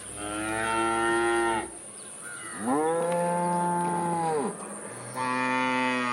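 Cattle moo in three long, loud calls, each a drawn-out low lowing that rises and falls, separated by brief quiet gaps. The last moo is cut off. No one speaks.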